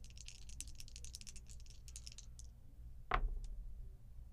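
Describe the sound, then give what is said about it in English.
Dice rattle together in a quick, crisp, clicking flurry for a couple of seconds, then fall silent before one sharp, loud clack as they land, over a low steady hum, with no talking. “If I could find the right dice, that'd be good.”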